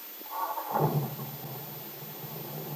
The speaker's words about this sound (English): Now, as they get into the new car, Bill starts the motor. Listen, Peggy.